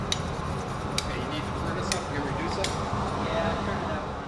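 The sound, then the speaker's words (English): Four sharp clinks of glassblowing tools striking glass ring out at irregular intervals over a steady workshop roar at the Glass Arts Center, where artists are making glass pumpkins for Halloween, with faint indistinct voices in the background. “They're making glass pumpkins for Halloween.”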